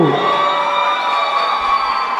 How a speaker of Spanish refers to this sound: ¡Aplauso, aplauso!